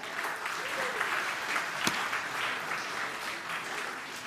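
A crowd claps steadily in a dense, sustained round of applause lasting several seconds, with one sharper clap standing out partway through and faint voices mixed in.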